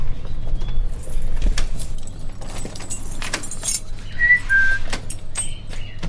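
A person gives a brief two-note whistle before entering a room of budgerigars in a bird research lab, to warn the shy birds, over a busy background of metallic jingling like keys and low rumbling movement. No one speaks.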